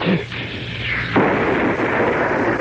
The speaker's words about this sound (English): I wonder if I lit this 4th of July firecracker a day early under the boss, that he'd give me a raise. Well, it'll give him a rise. Go ahead and light it there.